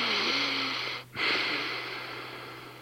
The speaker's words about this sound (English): Take a deep breath.